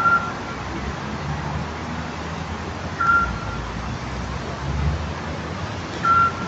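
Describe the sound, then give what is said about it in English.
A Scops owl in the city of Thessaloniki, Greece, gives a single short, whistled note about every three seconds, three calls in all, against a steady rumble of city traffic. “That's a Scops owl, to be precise.”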